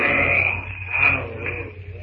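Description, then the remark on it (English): In the jungle, the greater of two great apes facing each other lets out a fearful challenge cry, a loud, rough, sustained bellow with a strained, raspy edge that swells briefly midway and holds for two seconds without pause. “The greater of the apes emits a fearful cry, which echoes through the jungle to silence all within hearing distance with its ferocity.”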